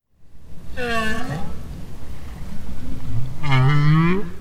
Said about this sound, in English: That's the highly endangered North Atlantic right whale. They once were commonly found off the coast of Maine, but not anymore.